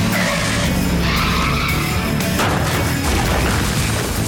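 Car tires skid and spin loudly, straining for grip in a continuous whining screech over a deep engine rumble, steady for the full length with no voices.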